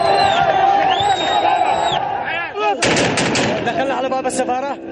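A loud, chaotic crowd in riots in Yemen shouts and yells continuously while sharp bursts of gunfire crack out repeatedly, some in rapid clusters, over the din of voices.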